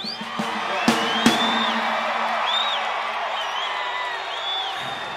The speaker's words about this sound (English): What are you booing for? Because you don't have any sports here?